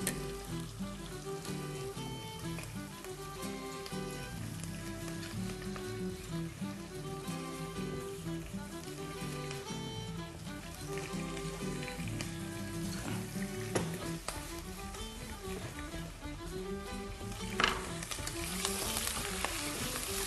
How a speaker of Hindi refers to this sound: इसको भूनना है हमने अच्छी तरीके से ताकि चिकन का जो पानी है वो खुश्क हो जाए